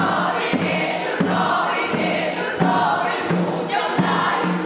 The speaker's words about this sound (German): Für das Glück und die Gesundheit aller Menschen, der Armen, der Alten und der Söhne, die im Krieg kämpfen. Und obwohl es Herbst ist, wird auch dem Publikum eine Schetrivka gesungen.